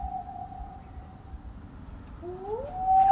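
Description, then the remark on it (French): A wolf howls in one long, steady note that fades slightly, then a second howl swoops upward and wavers, all over a low, rumbling background with no talking. “Et donc, en bas à droite, vous allez avoir le loup.”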